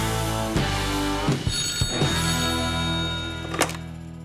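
A telephone rings steadily for several seconds as a guest is called on the P4 Country radio show from Malmö, its bright metallic tone sustained throughout, broken by a few dull knocks and clunks, as if the handset is being handled. No one speaks.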